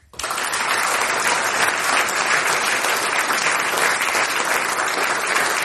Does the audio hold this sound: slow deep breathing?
no